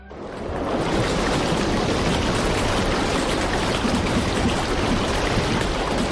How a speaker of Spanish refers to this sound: Así, síntese o mar un día como a hoxe, un 10 de novembro, natureza en estado puro, non tan de postal igual como que nos ofrece no verán, pero igualmente atractiva